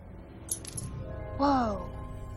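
A metal key drops with a few quick, bright clinks, followed by a short voiced exclamation over a low background hum.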